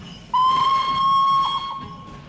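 A steam locomotive whistle blows one long, steady, shrill note that fades after about a second, over a constant background hiss of escaping steam.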